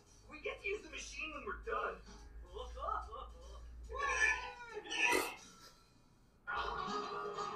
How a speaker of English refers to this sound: I think I let the pigs out. I think it's the pigs.